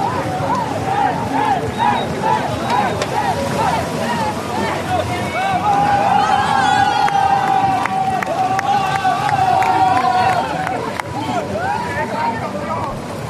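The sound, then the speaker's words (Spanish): The Spanish Olympic team cheers and shouts as they go into the water with flags at the Marina of Marseille on a hot 33-degree day: many excited voices overlap in loud, continuous whoops and yells, with one long sustained cry rising above the crowd midway through. “es el griterío del equipo olímpico español.”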